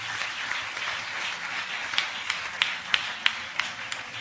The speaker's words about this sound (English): Are you clapping for the man of God?